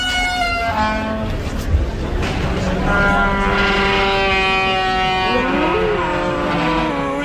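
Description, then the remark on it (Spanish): A door at the Mamón restaurant creaks in long, groaning tones that bend and waver in pitch, loud and steady throughout, sounding like the roar or call of a dinosaur. “Y una puerta que era exactamente el sonido de un dinosaurio.”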